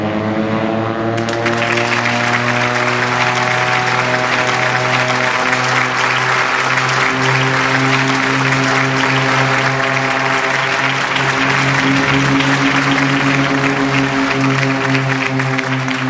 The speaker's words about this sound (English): The airport tower resounded with cheers and applause as my pilot, Erwin Danuwinata, and my co-pilot, Sumarwoto, managed to get me up into the sky.